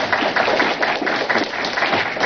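A crowd applauds steadily, many hands clapping in a dense, even wash of sound with no voices standing out, holding at a fairly loud level throughout.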